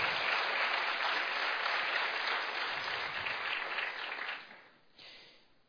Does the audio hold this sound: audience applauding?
yes